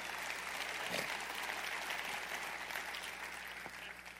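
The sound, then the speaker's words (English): An audience gives the Lord a big hand clap during a morning service, a dense wash of many hands clapping at once for about four seconds with no clear individual rhythm, fairly even in loudness before tapering slightly at the end. “Give the Lord a big hand clap for that this morning.”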